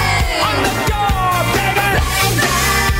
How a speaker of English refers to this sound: Is this the song where she yells, oh, yeah.